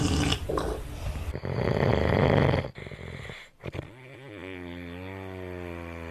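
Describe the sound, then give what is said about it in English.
A loud, rasping human snore rattles for a couple of seconds, then a brief snort breaks in before a long, wavering, droning tone trails off. “last night's snoring score was 80-82, so you can take a guess for yourself”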